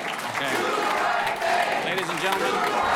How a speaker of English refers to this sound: Despite Mayor John Giles' pleas for calm, a boisterous standing-room-only crowd interrupted the Mesa City Council over and over again Monday evening.